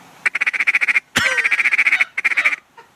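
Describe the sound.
A duck call blown in quick, choppy runs of short quacks, three bursts of rapid notes in a row, loud, with brief pauses between, mimicking a group of ducks.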